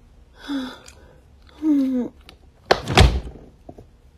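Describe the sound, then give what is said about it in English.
A drawer jolts open with a single solid wooden thunk and a brief scraping rattle. Two short, breathy voiced sounds come before it. “The drawer came out a bit.”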